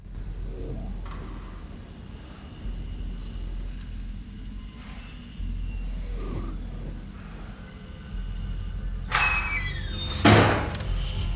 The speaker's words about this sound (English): Portman opens the cubicle door, shining his light in all directions.